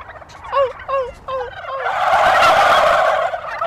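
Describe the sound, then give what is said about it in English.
A few short, evenly spaced yelping calls from a person imitating a female turkey are answered by a loud, rapid rattling gobble from wild male turkeys that fills the last two seconds, with no talking. “They make a very noise, and if I do that, the male turkeys will hear it and they'll probably get turned on and gobble back.”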